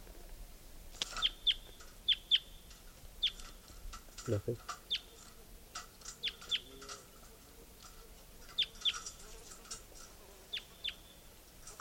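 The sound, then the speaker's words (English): Repeated high, sharp chirps of bird 467 being recorded come in quick pairs and short bursts, scattered irregularly over a soft hiss, with one brief low thump midway and no talking. “It's recording bird 467.”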